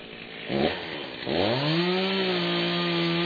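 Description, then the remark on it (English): A chainsaw sputters briefly, then revs up to a loud, sustained roar, its engine pitch rising and holding steady as it cuts firewood on a winter day. “The chainsaw roars and chatters, spitting sawdust, a loud and fearsome force.”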